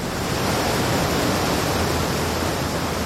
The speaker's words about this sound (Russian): Вода, миллиарды галлонов воды каждую минуту переливались через край и с высоты 2000 футов падали в гигантскую каменную чашу у подножия водопада.